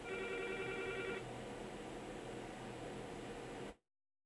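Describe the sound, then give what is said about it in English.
A telephone rings once with an incoming call, a short electronic burst of about a second, then stops, leaving steady static hiss that runs on until an abrupt cutoff. “We got a phone call here.”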